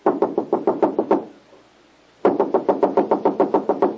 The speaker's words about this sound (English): Wait, I'll knock on the door.